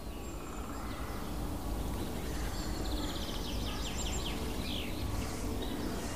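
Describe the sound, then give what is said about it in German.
Hard, sharp tick calls of hawfinches, at least two of them around, repeat mixed into a busy chorus of other birdsong over steady outdoor background noise. “Dann hört ihr noch die harten Ticks, Picks, Ticks, Picks Rufe des Kernbeißers.”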